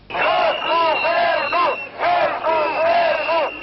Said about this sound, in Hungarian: Le a kormánnyal, kiabálták a parlament előtt összegyűlt tüntetők. Több ezer szakszervezeti tag és nyugdíjas tiltakozott a kánikulában az épület bejáratainál a megszorítások ellen.